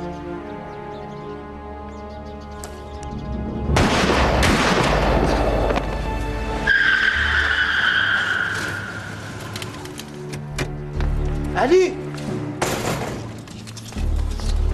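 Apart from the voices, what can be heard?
gunshot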